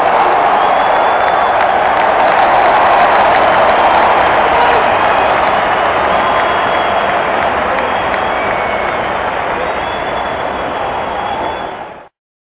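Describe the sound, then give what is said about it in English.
A loud, dense crowd cheers and applauds continuously for about twelve seconds, a steady roar of claps and shouts that cuts off abruptly at the end. “Hey, man, get my crowd started. I mean, I know they want it.”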